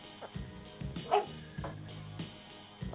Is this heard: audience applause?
no